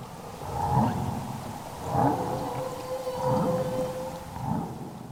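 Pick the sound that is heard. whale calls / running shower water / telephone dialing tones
whale calls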